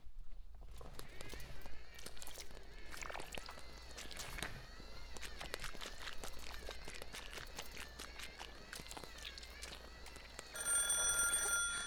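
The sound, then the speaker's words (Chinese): A telephone rings with a bright, trilling bell over a busy background of rapid clicks and clatter. The ring grows louder toward the end. No one speaks. “是他，那个贱人居然会打电话给我”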